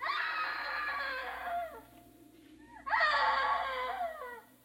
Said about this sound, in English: Oh, I know I heard her scream. I know it. Oh, darn, darn, darn. You are there. You are there. Hey, screaming woman.